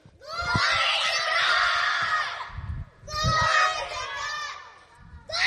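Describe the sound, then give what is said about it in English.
A large group of children loudly yells "Glory to God" together in two long, sustained bursts, a full-throated, energetic chorus of shouting with a short break between them. “You guys need to make your parents upset of how loud you screamed, okay?”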